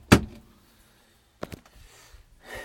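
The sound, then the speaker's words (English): A loud metallic clunk as a van door latch is locked, with the van parked in the countryside about 4 miles out, followed a second later by a quieter double click and some faint shuffling. “Let's lock the door so we don't get”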